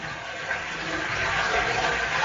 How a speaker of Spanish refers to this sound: Este es el sonido del agua corriendo en nuestros arroyos. De fondo, el silencio y quizás algún pájaro cantando.